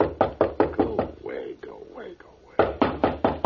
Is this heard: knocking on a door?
yes